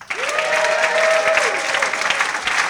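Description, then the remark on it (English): An audience at the 15th Annual Investors Summit at Sea claps loudly and steadily for Ken McElroy, a dense, continuous wash of applause, with a sustained whistle rising over the crowd near the start before fading. “If you learned something from Ken McElroy this week, let's have a show of applause.”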